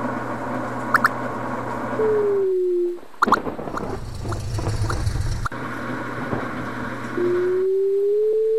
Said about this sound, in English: Vehicle drone.